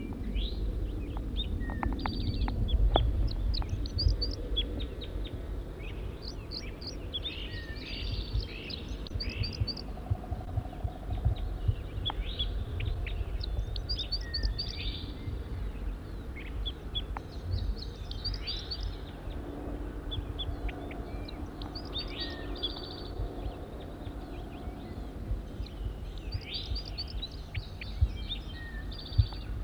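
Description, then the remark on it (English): Wild bird calls from a wild male bird: bursts of high, thin chirps repeating every few seconds throughout, fairly faint over a steady low rumbling background with occasional soft knocks. “Back to the wild bird.”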